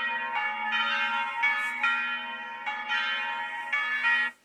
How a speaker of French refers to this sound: À Noël, les cloches de l'église se mettent à sonner et les gens s'y retrouvent pour célébrer la naissance de Jésus.